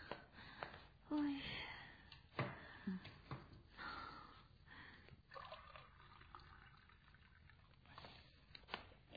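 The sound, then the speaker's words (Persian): Cold water from the fridge is poured in short splashing bursts, with light trickles, drips and a few faint clinks in between, then a quieter stretch of soft background rustle. “آب خنک یخچال داریم؟ آره بذار الان بهت میدم.”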